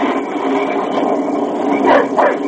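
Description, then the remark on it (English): A dog named Dan, which smells game, barks a couple of times in quick succession near the end during a storm, over a steady rushing background noise. “Keep that dog quiet. He smells game.”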